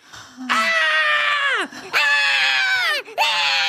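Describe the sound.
An adult voice imitates a one-year-old girl screaming after a juice box is taken from her hand and thrown into a trash container: three loud, sustained, shrill wails in quick succession, each dropping in pitch as it trails off, with brief gasping breaks between them.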